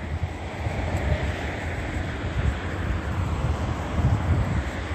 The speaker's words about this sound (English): All right, and the helicopter is flying over Metro 102 apartments now. And again, that's migration. As I'm moving, the state remaining present with the helicopter.